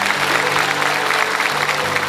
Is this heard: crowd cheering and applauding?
yes